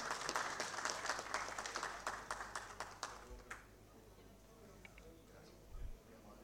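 Dense audience applause at the Chamber of Deputies for the recipient of the Emiliano R. Fernández award, with many overlapping sharp claps for about three seconds, then thinning out to a few scattered claps before fading to quiet.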